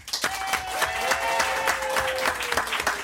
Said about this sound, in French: Alors déjà, j'aimerais faire un test par applaudissement dans le studio. Est-ce qu'il y a des gens qui, comme moi, sont en province par applaudissement?